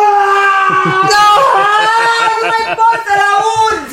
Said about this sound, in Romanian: Cine strigă? Ai auzit? Unul care trebuie să moară.